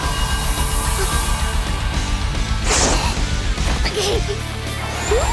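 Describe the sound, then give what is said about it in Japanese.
A sharp whip lash cracks through the air with a quick swish and snap near 2.8 seconds as a whip is swung at an opponent who dodges it, followed by a lighter whooshing motion, over a dense, rumbling background bed. “野生の勘で瞬時に鞭を避けたのか。”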